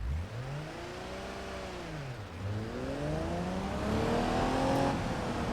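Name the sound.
car engine revving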